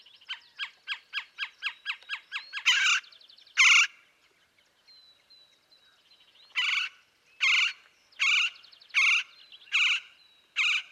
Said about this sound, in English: Well, in the Sonoran Desert, there's also a bird called the Gila woodpecker, Melanerpes europygialis. It's got a tan-colored head and underside and bold black and white barring on the back and wings. Males have a red patch on the crown.